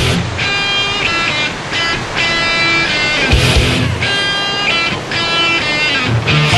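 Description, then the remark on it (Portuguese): Loud, continuous roar of giant surf on a rough sea and strong winter wind in Hawaii, with a heavy wave crash around the middle, and bright pulsing tones layered on top throughout. “É quando o vento está mais forte, o mar mais agitado e as ondas gigantes.”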